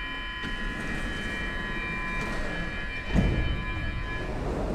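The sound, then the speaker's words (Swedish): A subway train hums in an underground T-bana station by Götgatan, a steady rumble laced with thin, high whining tones, broken by a brief louder clunk just past three seconds. No one speaks. “Då var vi ute ur T-banan igen då.”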